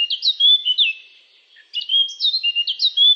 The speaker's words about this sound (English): A colourful chaffinch steps on the forest stage, having his wings decorated with white stripes, and begins singing.